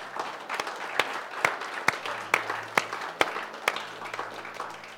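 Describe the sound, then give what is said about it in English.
A church audience applauds as a hand clap of praise to God in a morning service, a dense wash of many hands clapping steadily, with a few sharper, louder claps landing in a regular rhythm about twice a second. No voices stand out. “Can you give God a hand clap of praise this morning?”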